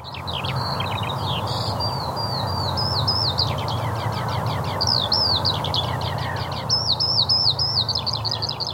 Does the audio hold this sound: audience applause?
no